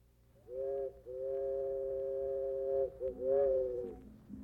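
A steam locomotive whistle sounds a few loud, sustained chord-like blasts: a short opening toot, one long drawn-out wail, then two shorter ones that bend and fade, with no voices.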